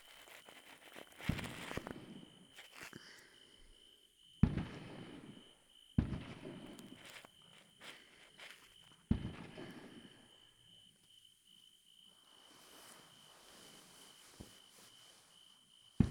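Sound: distant fireworks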